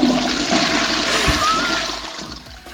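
A toilet flushes, a loud continuous rush of water that roars steadily for a couple of seconds before beginning to taper off, with no voices present.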